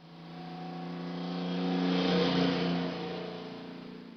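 A car speeds down a street in a school zone, its engine growing louder as it approaches, peaking as it passes, then fading away, with no voices.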